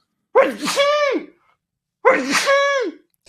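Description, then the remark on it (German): Two loud sneezes about a second and a half apart, each a sharp breathy burst sliding into a high, pitched vocal tail, with silence between them. “Ich muss niesen, Achtung.”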